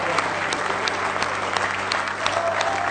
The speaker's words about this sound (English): Oh, give him a real good hand clap of praise. He's worthy.